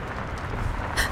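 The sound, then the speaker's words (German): A car approaching with bright headlights through rainy darkness: a steady low engine rumble wrapped in broad hiss, swelling slightly louder toward the end with a brief bright rush of noise. No one speaks. “Entgegen ihrer Hoffnung mussten Elaine und Harry allerdings über 2 bange Stunden ausharren, bis grelles Scheinwerferlicht die verregnete Dunkelheit zerschnitt und das Geräusch eines sich nähernden Wagens an ihre Ohren drang.”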